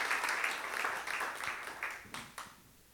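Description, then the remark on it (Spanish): An audience claps together in applause for the Holy Spirit, a dense, steady burst that holds for a couple of seconds, then thins out and fades to a few scattered claps. “Vamos a darle un aplauso al Espíritu Santo y gracias a Dios.”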